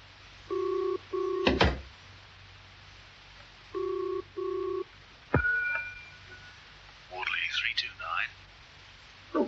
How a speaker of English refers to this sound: Ah, good, it's ringing now. While you're on the phone